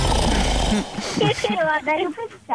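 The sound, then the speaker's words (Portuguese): A single loud, rough, rasping snore lasting under a second, harsh and dense with low rumble, from the speaker's cousin snoring at home, followed immediately by people talking. “Acabou de perder um ruído lá para casa. É o ronco do meu primo”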